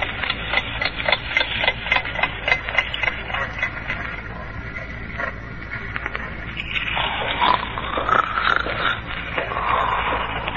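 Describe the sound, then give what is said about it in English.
Footsteps clump on the wooden planks of a wharf at almost midnight in a steady walking rhythm, each step a dull knock, before rougher creaking and scraping of wood takes over in the last few seconds. No one speaks. “Somebody's coming along the wharf.”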